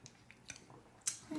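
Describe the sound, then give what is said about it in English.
A quiet sip from a glass of frothy Bally Bally cocktail: a few soft wet mouth clicks, then a short airy slurp and a low gulping sound as the drink goes down. No one talks. “Let's have a sip of this.”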